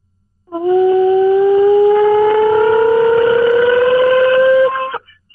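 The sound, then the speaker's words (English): A loud pig sooie hog call for the Razorbacks: one long, strained vocal holler held for about four seconds, its pitch slowly climbing before it cuts off abruptly. “Give me a pig suey so I know what it sounds like.”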